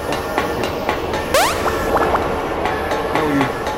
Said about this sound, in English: So the trains that just do the train whistle noise are trains you can get into.